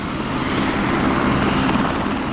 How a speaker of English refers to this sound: Chopper tour operators say business has taken off in the past few years, with nearly 60,000 tours given in just the past year. If you only count the hours they're allowed to fly, that's an average of one chopper every 3.5 minutes.